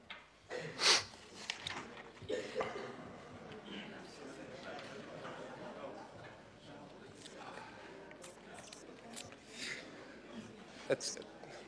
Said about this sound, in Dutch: Af en toe snuif ik wat. Heeft niet met emotie te maken, maar met andere zaken.